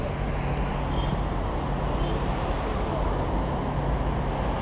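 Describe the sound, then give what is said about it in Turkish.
Steady, dense roadside rumble of passing traffic at a bus stop where people are waiting for a bus, a continuous wash with low engine drone and no distinct pauses, loud throughout. “7 dakikalık bir mesafede otobüs durağında şu an bekliyoruz.”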